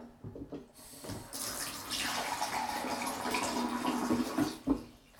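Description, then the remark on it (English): Water runs steadily from a tap into a jug for several seconds, a continuous splashing stream with a faint rising fill, preceded by a few soft clunks and ending with a knock. “Should we add more water?”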